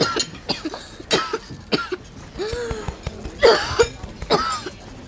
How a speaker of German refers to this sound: Hörst du jetzt auf mich? Hör auf, lass die Husterei. Vielleicht steckt ihm was im Hals. Glaub mir, Husten ist seine Stärke. Er macht das absichtlich, bestimmt.